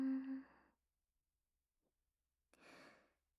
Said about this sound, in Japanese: ところで、その声は何なのかな？はぁはぁって息荒くしちゃって、女の子みたいな可愛い高い声。これ、喘ぎ声だよね。